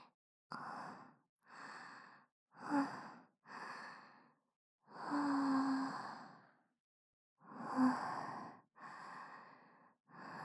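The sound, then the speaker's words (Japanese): Heavy, out-of-breath breathing: about eight loud, ragged inhales and exhales in an uneven rhythm with short pauses between, and no talking. “息切れちゃった。うるさかったらごめんね。”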